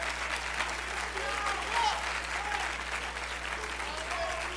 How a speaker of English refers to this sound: If you love Him, let's clap our hands into Him and bless His name.